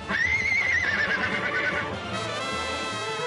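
A horse neighs loudly, a shrill, wavering whinny lasting under two seconds before trailing off into low snorting and background rumble.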